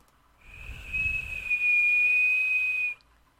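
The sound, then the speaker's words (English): A single long, steady whistle held on one high pitch for about two seconds, loud, with a soft breathy rush as it starts before cutting off abruptly. “And when they want to go anywhere, they just whistle like this.”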